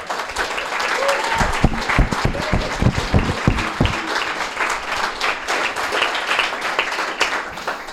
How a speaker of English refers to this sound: Round of applause for that man.